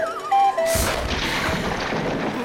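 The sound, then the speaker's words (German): A sudden heavy crash as two people tumble to the floor, followed by a second or two of rustling, scuffling noise. Faint thin squeaky tones come just before the fall. “Also wir sind beide umgefallen.”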